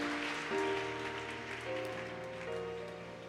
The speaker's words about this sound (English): Clap for Jesus and take your seat.